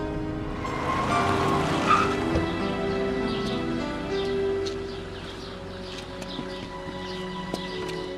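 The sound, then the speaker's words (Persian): A car engine runs loud, then its roar eases off as the vehicle slows to a stop and settles into a steady idle, with faint bird chirps in the background. “من باید برم، ماشین رو نگه دار.”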